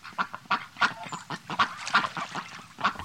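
A duck quacks repeatedly in a quick, uneven series of nasal calls, about eight in three seconds, clear with no talking.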